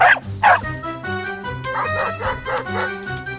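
The dog Kusachka barks sharply twice, followed by a run of rapid, higher yips and excited whines as she jumps up and rushes at Nolik, all loud and with no one talking.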